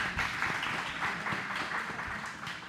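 A crowd applauds steadily, a dense wash of many overlapping hand claps with no pauses, sustained at an even level for the whole stretch before easing slightly at the end.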